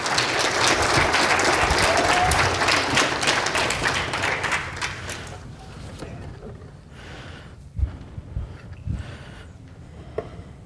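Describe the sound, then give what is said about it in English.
A crowd applauds volunteers who helped the speaker, breaking into loud, dense applause that holds steady for about five seconds, then thins out into scattered claps and a few sharp taps before fading. “Give my volunteers a round of applause.”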